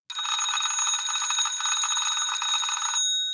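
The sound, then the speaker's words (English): An early-1900s mechanical wind-up doorbell, a piece of metal hitting another piece of metal, rings in a continuous rapid clattering trill for about three seconds, loud, then cuts off, leaving a brief metallic ring fading out. “This particular bell that I'm going to ring is from the early 1900s.”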